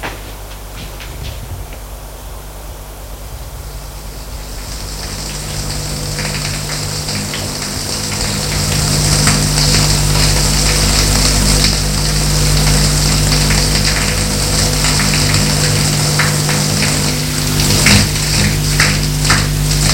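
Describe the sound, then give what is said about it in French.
Running water from a shower someone is about to take hisses in steadily after a few seconds and keeps pouring evenly, with a low mechanical hum underneath from the pipes or pump. “Il va prendre une douche.”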